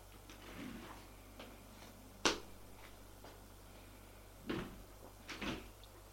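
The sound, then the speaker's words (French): An elevator door clunks and slides shut, with three sharp mechanical knocks spread over a few seconds against a quiet, faintly humming background. No one speaks. “Va prendre l'ascenseur. Et monte.”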